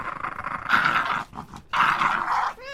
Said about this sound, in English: It was right there, but no, it's called WFMU the dog, and WFMU the dog is terrorizing my cat. My cat. Come here. Oh, jeez. Poor cat.